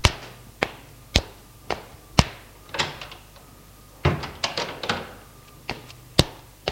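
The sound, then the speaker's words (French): A door in a cellar being opened: a string of sharp clicks and knocks, with rattling bursts of latch and handle noise in the middle, moderately loud with no voices. “Elle ouvrit une porte.”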